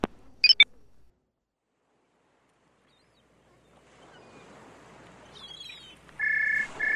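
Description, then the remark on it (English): A telephone rings with a steady, high electronic tone near the end, over a soft wash of water and waves while someone is fishing on the Choptank, after a couple of sharp clicks at the start followed by silence. “The fish aren't biting and the phone keeps ringing.”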